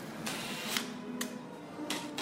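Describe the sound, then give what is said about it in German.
A taxidermist's power drill drives screws into the wooden frame of a blue sheep mount in three short, gritty bursts of whirring and grinding, separated by brief pauses over a low steady hum. No one speaks. “Der Präparator bohrt Schrauben in das Holzgerippe des Blauschafs.”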